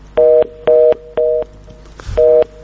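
A telephone busy signal: four identical steady tone bursts pulsing in a regular on-off rhythm, loud and close, with a brief low rumble just before the last beep.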